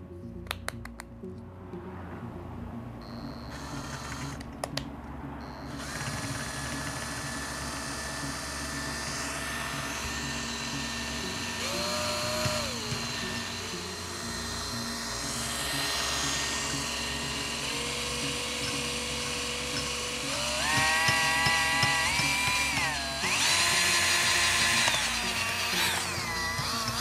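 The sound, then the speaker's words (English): A power drill whines continuously, its motor pitch climbing and dropping as the speed changes, with a steady mechanical hum underneath and no talking. “Let's try a drill.”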